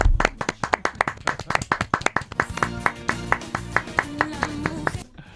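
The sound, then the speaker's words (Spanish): Steady, rhythmic clapping: a quick run of sharp, evenly spaced claps, fairly loud, keeping a brisk beat for about five seconds before stopping abruptly, given as applause for a bar in Seville. “Oye, ¿te parece que le demos el aplauso del día también a la barra de Sevilla?”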